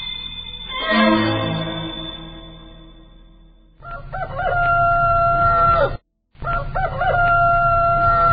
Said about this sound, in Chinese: 原来我讨厌死了邻居家养的大公鸡，这时候他这样的可爱